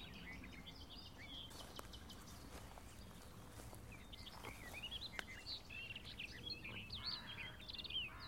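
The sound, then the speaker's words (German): A bird gives short, sharp tack calls again and again, some near and some farther off, over a steady low outdoor rumble with no one speaking. “Wohingegen hier noch näher so Tack, Tack, Tack Rufe zu hören sind, dass sie unsere Kieselsteine sind.”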